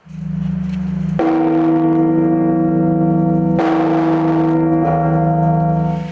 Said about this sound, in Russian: На подворье архипастыри смогли насладиться колокольным звоном.